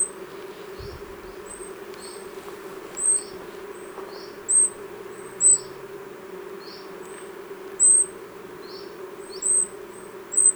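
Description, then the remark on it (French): Thin, very high-pitched calls of a treecreeper repeat at irregular intervals, short sharp notes rising above a steady low buzzing of foraging insects, at 11 a.m. in sunshine, with no voices present. “Là, c'était le cri d'un grimpeur des bois.”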